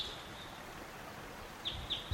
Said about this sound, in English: Stop. Birds right above the camp.